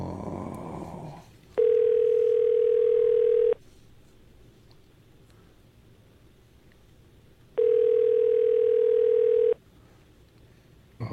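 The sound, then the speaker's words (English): A telephone ringing tone sounds twice, each steady electronic burr lasting about two seconds with a long quiet gap between, clear as if heard through a handset. “So I'm trying to keep someone on the phone.”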